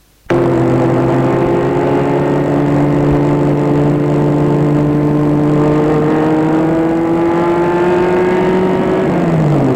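A car engine roars to life abruptly and runs loud, its droning pitch creeping slowly upward before dipping at the very end. No voices are heard.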